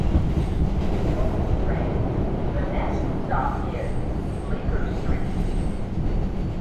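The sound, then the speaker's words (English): A New York City subway train rumbles steadily along, a loud, continuous low roar with rattling and faint higher squeaks, while muffled voices can be heard indistinctly beneath the noise. “The New York City subway system has 468 stations.”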